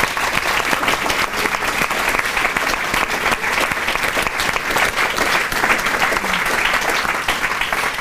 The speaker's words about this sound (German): Und ich glaube, dein Einsatz, dein Engagement und das Teilen von dieser Geschichte heute Abend hat einen ersten Applaus schon mal verdient.